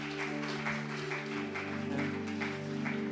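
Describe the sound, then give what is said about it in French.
An audience at a church baptism service applauds a band steadily, the clapping falling into a loose regular rhythm over sustained, held musical tones, with no voices standing out. “On peut les applaudir.”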